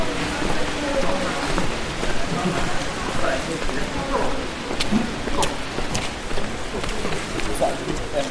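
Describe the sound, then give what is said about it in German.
Steady rain patters down on the Getreidegasse, a street in Salzburg, Austria, a dense continuous hiss with scattered sharper drips and splashes, and faint indistinct voices in the background. “Als ich da gestern bei noch mehr Regen unterwegs war, da war es relativ gemütlich.”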